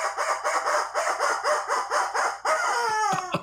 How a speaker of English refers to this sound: I mean, the rubber chicken says.